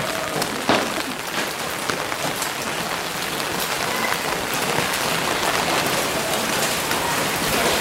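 Steady rain pours down, a dense continuous hiss with scattered sharper drops pattering on a hard surface, holding an even loudness throughout with no voices.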